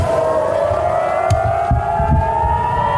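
A loud air raid siren wails steadily over Tel Aviv, Israel, as missiles fly over the city, its tone slowly rising, with faint thuds and background noise underneath and no voices.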